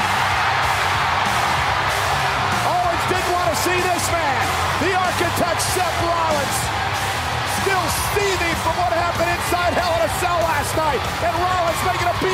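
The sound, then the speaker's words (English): A large wrestling arena crowd roars steadily as Seth Rollins comes out during the main event match between Jericho and Roman Reigns for the U.S. title, many voices yelling and cheering, sharp rhythmic claps or stomps punching through, and a rising "We Want Rollins" chant. “title, Seth Rollins came out to a pretty solid pop and a "We Want Rollins" chant.”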